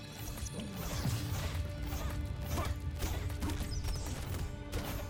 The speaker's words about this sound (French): Le tir plus fort que vous avez entendu, c'est ma capacité spéciale. En fait, c'est une sorte de tir de mortier, une flèche explosive. Et cette capacité-là, en fait, régénère, il y a un cooldown.